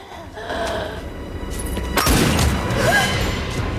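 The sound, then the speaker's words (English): A single loud gunshot cracks out about halfway through as, in a film scene, Gabriel shoots Ginger in the chest: a sharp burst over a steady bed of background noise, followed by a lingering low rumble. “Gabriel shoots her in the chest, and Stan's jaw drops in disbelief.”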